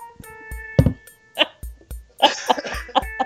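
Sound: cough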